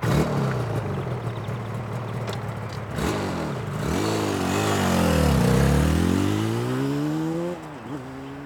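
A motorbike engine idles with a steady buzzing drone, then revs up and down several times in rising and falling sweeps, loud, with no voices.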